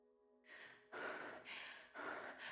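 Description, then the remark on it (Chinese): Heavy, rapid panting breaths, loud, coming in repeated airy bursts of inhale and exhale with no talking, from a person slumped over a table. “我上半身软趴在桌上，呼呼的喘气。”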